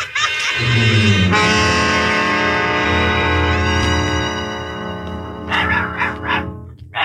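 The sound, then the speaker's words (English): Dorothy's small dog yips and barks in a few quick, sharp bursts near the end, fairly loud, over a sustained tonal background. “Look, it's Dorothy's dog.”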